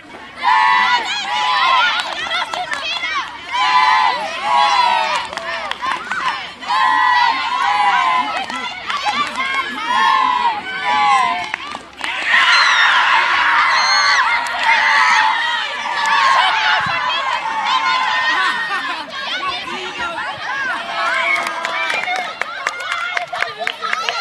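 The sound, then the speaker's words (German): Students shout and cheer excitedly during a game of 'Ball über die Leine' (ball over the rope) at a school sports day, a continuous loud babble of overlapping calls and yells with bursts of high-pitched cries, sustained throughout. “Auf dem Sportfest gibt es allerhand zu sehen. Die Jugendlichen sind mit ganzer Motivation, wie hier beim Ball über die Leine, mit dabei.”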